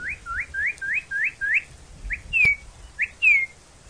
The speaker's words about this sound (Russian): Есть такая порода уток. Когда они летят, то их крылья, рассекая воздух, точно поют, или лучше сказать, посвистывают. Фью-фью-фью-фью-фью раздается в воздухе, когда летит высоко над вами стадо таких уток.